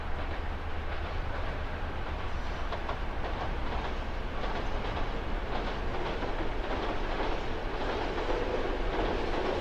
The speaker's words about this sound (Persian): قطار توی جاده کوهستانی در حال حرکته. برف همه جا رو پوشونده.